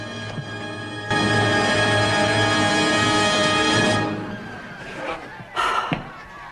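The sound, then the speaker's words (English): A heavy stone secret door carved into a wall grinds open in one long, loud scrape lasting about three seconds as Esteban comes in through it, then two short knocks or thuds follow as it settles, with a low steady hum underneath. “Esteban comes in through the secret door carved into the wall.”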